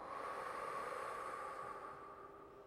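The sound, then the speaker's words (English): A long, slow, airy exhale of a deep cleansing breath, steady and breathy for nearly three seconds before easing off slightly at the end, soft with no talking. “Breathing in and exhaling out.”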